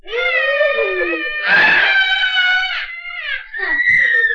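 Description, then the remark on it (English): A voice imitates a potato screaming after a farmer turns it up from the ground: a loud, high-pitched scream, wailing on and on with swooping pitch and a couple of brief breaks, with no other talk. “He turned the potatoes up, and all of a sudden, one of the potatoes began to scream.”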